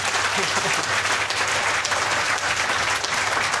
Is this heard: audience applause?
yes